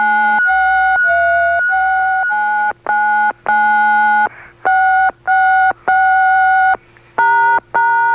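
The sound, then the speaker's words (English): A simple tune plays on push-button phone keypad tones: a loud run of steady dual-tone beeps at shifting pitches, some held longer than others, with short gaps and no talking. “can I play a song on my push-button phone?”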